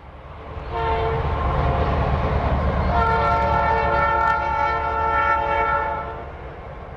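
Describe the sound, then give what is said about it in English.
A freight train on a line across the flat, open prairie at Greensburg rumbles past with a deep, steady roar while its horn blows a long, loud chord that swells midway and holds before fading. “Greensburg sits on a freight train line that cuts across the flat, open prairie.”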